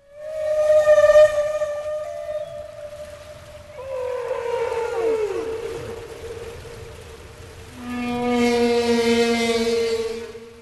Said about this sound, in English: Or at sea here from the same exhibit, the humpback whale.